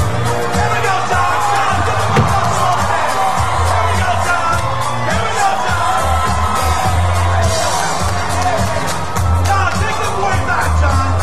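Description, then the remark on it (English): A dense street crowd roars continuously, yelling at John Travolta during a street celebration for Saturday Night Fever, with overlapping yells, whoops and cheers rising and falling, occasional sharp bangs, and indistinct voices mixed throughout at a steady, loud level. “There's people yelling at him.”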